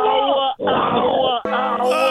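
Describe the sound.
A male radio caller growls loudly into the microphone at the end of his call, a rough, drawn-out vocal snarl in several bursts with brief breaks between them.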